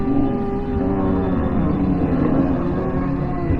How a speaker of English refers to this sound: Speaking of horror sound effects, if you ever need some zombie sounds, just record laughing gulls in slow motion on your phone.